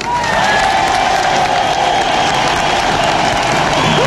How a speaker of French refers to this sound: Je vous propose de vous applaudir.